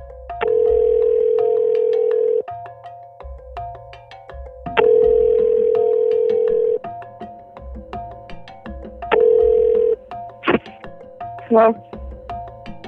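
An outgoing phone call rings three times, each long, steady electronic tone lasting about two seconds and separated by short pauses, followed by a couple of brief clicks and tones as the line connects.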